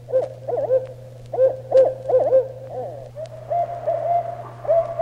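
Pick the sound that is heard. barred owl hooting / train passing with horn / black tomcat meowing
barred owl hooting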